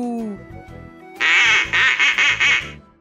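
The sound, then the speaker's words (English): Rosie's new toy keyboard, sounding each time Rosie pushes a key, blares a loud, buzzy electronic duck quack, a run of about five quacks in quick succession, after a brief softer descending tone at the start. “Every time Rosie pushes a key, the toy makes an animal sound.”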